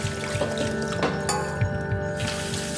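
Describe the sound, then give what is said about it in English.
Water splashes and sloshes as new white potatoes are dunked and swished around in a pan of water to be rinsed, with steady pouring and trickling sounds throughout and a few louder splashy bursts. “I scrub the new white potatoes, pour any dark spots from the flesh, and dunk them into the pan of water too.”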